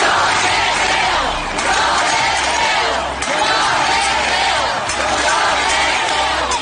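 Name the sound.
protest crowd shouting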